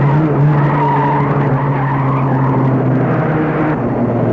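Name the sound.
car skidding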